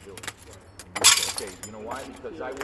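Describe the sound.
Shards of broken glass clink and scrape as they're gathered up, with one brighter, louder rattle in the middle, while people talk quietly nearby.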